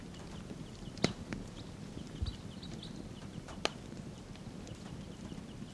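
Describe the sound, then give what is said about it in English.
Wild birds calling around a tree in a park, with soft, scattered high chirps over a steady low rumble, broken by a couple of sharp clicks. No one speaks. “Wild birds calling.”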